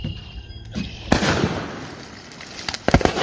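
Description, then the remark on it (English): Sodium metal burns and reacts violently on contact with water: a sudden loud burst gives way to a steady crackling hiss, then a quick cluster of sharp, loud pops near the end. No one speaks. “This stuff actually burns when it comes in contact with water.”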